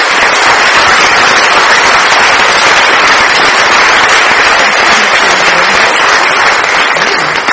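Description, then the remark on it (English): A large crowd claps steadily and loudly for several seconds for all of the storytellers, a dense, continuous wash of applause with no pauses and no voices standing out. “If you'll save all your applause for the end, except for right now, let's applaud for all of them.”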